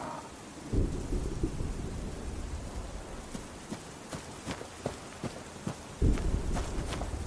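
A thunderstorm in the woods with lightning and steady rain pattering throughout, punctuated by two heavy low thunder cracks and scattered sharp drips or splashes; no voices.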